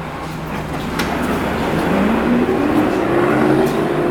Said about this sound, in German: Der Bus fährt weiter.